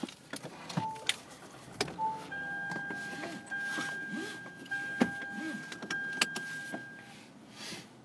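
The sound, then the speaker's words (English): Cabin noise inside a car: a low road rumble with scattered clicks and rattles, plus a thin electric whine that runs steadily for several seconds. “I have got a cord situation going in this car.”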